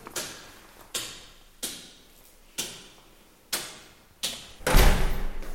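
Heavy doors in a castle are shut one after another, about seven solid clunks in a steady rhythm, each with a short echoing tail; the final slam lands loudest and boomiest. No one speaks.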